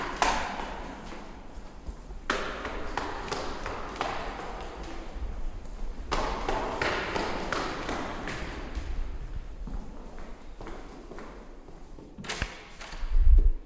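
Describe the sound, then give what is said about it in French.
Footsteps climbing a stairwell at the back of a large hall up to the first floor, a steady series of hollow thuds and taps echoing, with a heavier thump right at the end and no talking. “J'arrive maintenant dans un grand hall, le traverse, pour trouver au fond une cage d'escalier. J'emprunte celui-ci pour monter au premier.”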